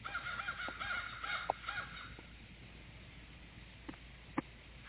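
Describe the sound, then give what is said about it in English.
Several crows caw in quick, overlapping bursts for about two seconds, then fall quiet, leaving a faint background with a few sharp, isolated knocks near the end. “A vow to guard our fields in autumn crown and murder mocking crows on brawny down.”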